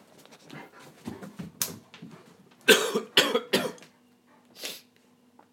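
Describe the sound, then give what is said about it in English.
A dog, Vance, coughs harshly in a quick cluster of three or four sharp bursts, with softer rustling and breathing before and after and no talking. “Try not to cough on the treat.”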